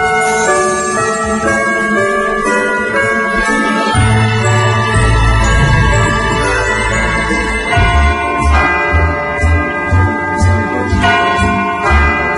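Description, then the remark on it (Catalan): A clock chime rings out a melody of sustained, resonant bell tones for the quarters before the New Year's Eve chimes on an Extremadura television broadcast, loud, with a deep pulsing low tone joining partway through. No one speaks. “Jo entenc que són els quarts, deuen ser.”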